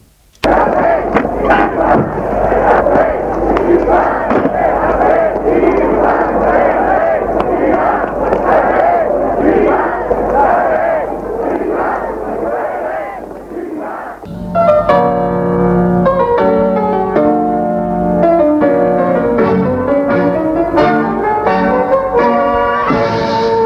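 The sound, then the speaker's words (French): A loud crowd of striking factory workers at a demonstration shouts and clamors for about fourteen seconds, crying "Patron SS", voices overlapping in a dense uproar with sharp bangs mixed in, then it cuts abruptly to music. “Les ouvriers sont toujours en grève. Les clients annulent leurs commandes. L'on crie « Patron SS ».”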